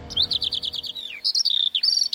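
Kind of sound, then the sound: bird, small birds chirping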